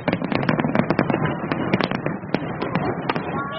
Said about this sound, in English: In Hong Kong, there was a huge firework party at the Victoria Harbour as usual, creating a joyful atmosphere for residents and tourists alike.